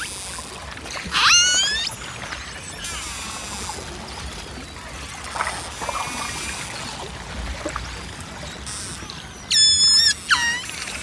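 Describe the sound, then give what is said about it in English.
A pod of orcas (killer whales) calls underwater in the Ross Sea, Antarctica, recorded from a frozen ocean surface about 20 kilometres offshore: high, squealing whistles and rising, sweeping tones, some in quick bursts, over a constant watery hiss and low rumble. No one speaks. “This is a pod of orcas, killer whales, in the Ross Sea in Antarctica.”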